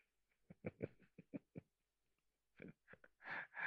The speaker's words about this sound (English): No yawning. Stop yawning. It's not loud.